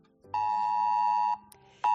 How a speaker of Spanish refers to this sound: Han pasado ya dos semanas del paso de la última dana por la provincia de Málaga, un temporal por el que se activó, seguro lo recuerdas, la alerta roja, por el que recibimos un aviso de Protección Civil en el móvil alertando de la peligrosidad.